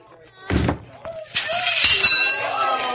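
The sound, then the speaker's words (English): A man swings a heavy hammer onto a carnival strength tester with a loud thud, and moments later a bright bell rings out and lingers, with faint crowd murmur around it. “Test your strength and ring the bell.”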